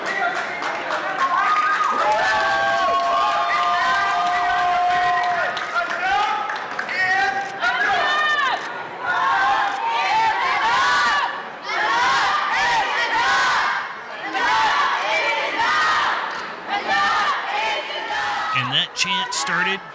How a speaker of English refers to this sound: And one thing to note is outside these chamber walls, outside these chamber doors, there are quite the crowd of individuals gathered in there causing a ruckus. All angry about guns, not about the shooter